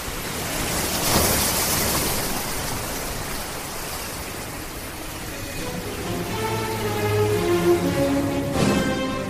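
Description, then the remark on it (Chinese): Steady, dense rain hisses throughout, with a couple of louder rumbling surges like thunder near the start and end. A sudden heavy downpour by the Chickahominy River outside Richmond, making the river rise. A faint tonal, musical hum rises beneath it in the later seconds. “默克莱伦等待进攻时机时，突然落起大雨，河水上涨。”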